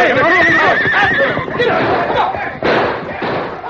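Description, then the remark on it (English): A horse whinnies loudly and shrilly, its wavering cry followed by a scuffling commotion and a sudden heavy thump as the Lone Ranger's horse Silver crashes against Tompkins' horse, forcing it back against the other horses. “A hidden signal from the Lone Ranger sent Silver crashing against Tompkins' horse, forcing the animal back against the others.”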